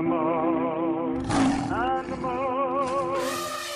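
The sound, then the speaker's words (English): A loud tiger roar rumbles continuously for a few seconds, its tone wavering and swelling mid-way before trailing off, with no talking over it. “I'm like a tiger.”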